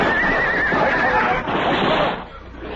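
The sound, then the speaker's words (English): Horses whinny shrilly as they go down on a canyon floor, a wavering cry over the first second followed by fainter neighs, all buried in a dense, continuous rush of noise. “Our horses went down, and the six of us were trapped in the canyon floor.”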